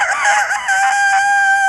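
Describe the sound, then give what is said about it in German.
A person imitates a rooster's crow, a single loud, strained cock-a-doodle-doo with a wavering start that settles into a long, steady, nasal note. “Und einen Hahn. Zum Beispiel so.”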